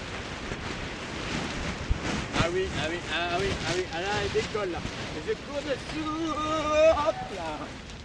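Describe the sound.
Gusty wind buffets the microphone outdoors, a steady rushing roar that swells and dips, with voices talking underneath it.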